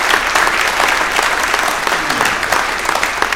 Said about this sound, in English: And of course, one more round of applause and amens for God himself. Praise the Lord for what he has done today.